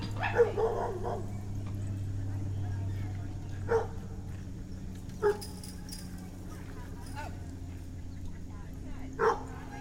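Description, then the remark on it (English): A male dog barks excitedly before going for a walk, a quick cluster of sharp yips at first, then single barks spaced a second or two apart, all over a steady low hum. “it goes without saying that Jack Derrida, my dog, is my friend”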